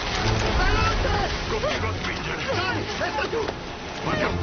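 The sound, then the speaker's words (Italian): Two people push a boat from the shore into shallow water, with continuous splashing and sloshing, while people's voices and strained breaths rise over the noise. “… e … spingono la barca in acqua.”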